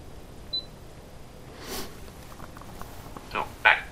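A short beep sounds, then a soft whir, and later a sharp mechanical camera shutter click with a brief electronic chirp as the camera snaps a photo, giving two beeps in all, over a quiet background hiss.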